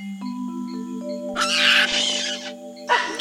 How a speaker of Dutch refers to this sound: Klinkt het van alle kanten. De grote bavianen komen het kleintje helpen. Ze denken dat het meisje hun kleintje kwaad wil doen.